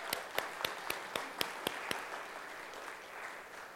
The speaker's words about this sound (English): So let's give her a round of applause.